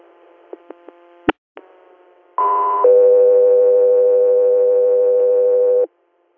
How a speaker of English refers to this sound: Guthrie Air, standby for tones.